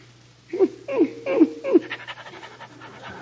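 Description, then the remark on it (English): A large St. Bernard dog pants heavily, four strong rhythmic breaths followed by quicker, softer panting, with a low steady hum underneath. “Oh, you got a St. Bernard. Nice doggy.”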